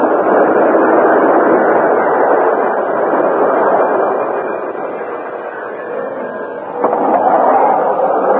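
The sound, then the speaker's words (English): A westbound express train slows to a stop at a railroad station east of Redtown, rumbling with a dense, steady roar that eases slightly midway, then swells again before a brief metallic screech near the end; no one speaks. “Some days later, at the railroad station east of Redtown, the westbound express slowed to a stop.”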